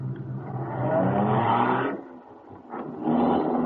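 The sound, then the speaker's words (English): A car engine rumbles loudly, revving up, dipping briefly, then surging again as the car pulls away. No voices are heard. “Get in this car.”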